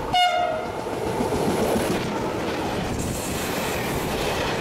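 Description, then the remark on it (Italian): A train pulls into the station in Piazza Matteotti, Cagliari: a brief, loud horn blast at the very start, then a steady rumble of the cars rolling in. No one speaks. “Il giorno dell'inaugurazione viene a prendere me e i miei genitori alla stazione in piazza Matteotti. Era la prima volta che prendevo il treno ed era la prima volta che veniva a Cagliari.”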